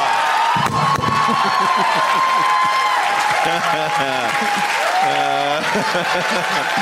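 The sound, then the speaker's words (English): An audience bursts into loud, sustained applause, with dense clapping running throughout and cheering, whoops and shouting voices rising over it, steady in volume for the whole stretch. “Why are you cheering”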